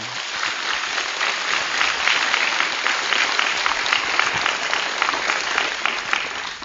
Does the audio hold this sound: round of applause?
yes